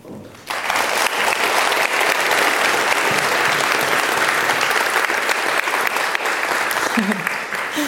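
An audience at the GPN event breaks into sustained applause for a speaker after a brief quiet moment, a dense, steady wash of clapping hands that holds at an even, loud level throughout.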